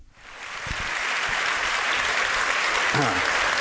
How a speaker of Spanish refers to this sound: Pepe, noticias, transmitiendo desde la Academia Sueca. Hay aplausos de parte del auditorio para Mario Vargas Llosa.